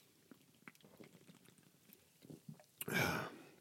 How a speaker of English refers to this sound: Let me grab a sip of my Polar Seltzer Cranberry Lime water.